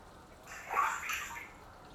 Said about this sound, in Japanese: しぶき跳ねたらごめんなさいまし。